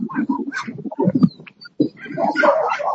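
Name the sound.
dogs barking and whimpering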